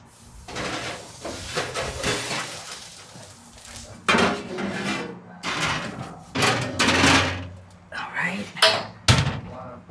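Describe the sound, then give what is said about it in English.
A pie dish clatters as it is slid into a 425-degree oven to bake for about 10 minutes so the crust browns. Rattling metallic scrapes are followed by several sharp clunks as the oven door is shut, ending in a final solid bang. “Okay, so now I'm going to put it in a 425 oven for about 10 minutes so that the crust gets brown.”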